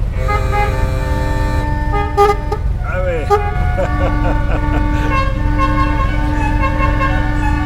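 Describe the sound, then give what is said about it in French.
An old American vintage car horn honks in long, loud, nasal blasts, shifting pitch partway through, with a deep engine rumble running steadily underneath. “Alors, et un coup de klaxon, on peut avoir un coup de klaxon?”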